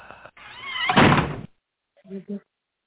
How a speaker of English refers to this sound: Ouch. Slammed the door and everything. Ow.